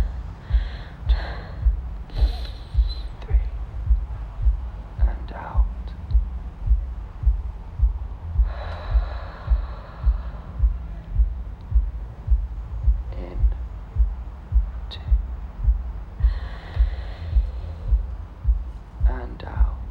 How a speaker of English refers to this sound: Just keep breathing. Breathe with me, okay? In for three, out for three. Breathe in.